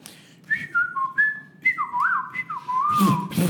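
A person whistles a short, wavering tune of several clear notes sliding up and down, fairly close and moderately loud, with a burst of breathy noise near the end.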